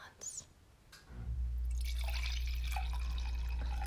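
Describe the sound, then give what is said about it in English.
A few soft clicks, then wine pours steadily from a bottle into a glass, a continuous loud gurgling splash with a deep rumbling undertone that holds to the end. “It's our signature pour sound.”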